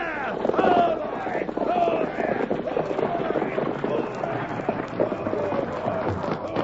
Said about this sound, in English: Pull up the horses.